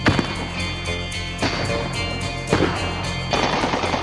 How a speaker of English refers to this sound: The creator lives in Iraq, and he has mixed in some gunfire to the song.